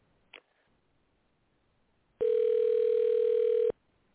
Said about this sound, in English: We got a phone that just rings. They must be very busy out there.